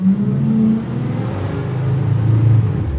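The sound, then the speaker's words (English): A city bus rumbles past, its deep engine drone loud and steady for a few seconds with a slight rise in pitch, and no voices over it. “If you were recording someone's voice and a city bus drove by, there would be a super, super low rumble that we don't want to hear.”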